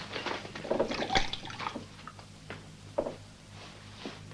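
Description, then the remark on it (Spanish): A bartender at a bar pours whisky into a glass in a short gurgling stream that swells and then tapers off, followed by a few soft drips and light taps, with a low hum underneath and no talking. “En la barra, el camarero sirve un whisky.”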